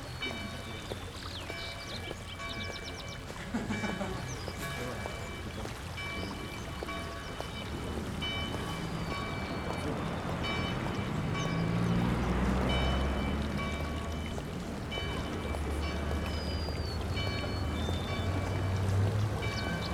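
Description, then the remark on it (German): Steady flowing water runs continuously for the whole stretch, a broad rushing wash with bubbling, splashing detail, moderately loud, swelling slightly midway. No voices are heard. “Richten Sie Ihre Aufmerksamkeit jetzt auf das Geräusch fließenden Wassers.”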